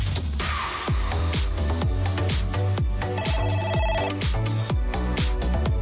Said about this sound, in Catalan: Sona el telèfon, no sé qui deu ser, perquè avui...